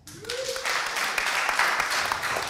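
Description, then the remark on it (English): An audience claps together in a dense, steady patter of applause that holds at an even loudness for a couple of seconds, with a brief rising whoop near the start. “This is also going to be on the CG Garage podcast, and if any of you guys, how many of you guys listen to the CG Garage podcast by claps?”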